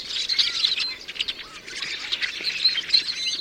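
Rusty blackbird calls fill the whole stretch: a busy, overlapping chatter of high, squeaky chirps and creaky notes, steady, with no voices.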